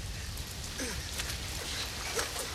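rain falling

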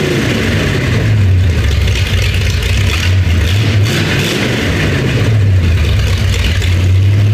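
car engine revving

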